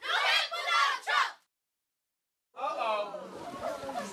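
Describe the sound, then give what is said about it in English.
A group of children in a class play, acting as a crowd at a Donald Trump speech, chant and shout loudly together, "We love you, Donald Trump," in a short burst, fall silent for about a second, then erupt again in a longer stretch of excited group yelling. “The crowd shouts, "We love you, Donald Trump."”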